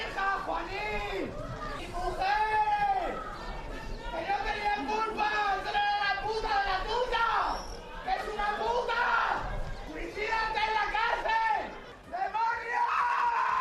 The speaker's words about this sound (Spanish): Desgarradores los gritos de los viudos. Uno de ellos ha sido reducido por la policía tras saltarse el cordón policial para llegar a la puerta del juzgado.